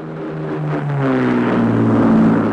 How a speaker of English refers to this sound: should we start again once this helicopter's gone? Probably a good idea. That was a bit louder than I thought, actually.